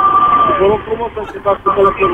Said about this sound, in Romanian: Păi nu cred că ascultă domnul polițist. E microfonie de la mașina poliției.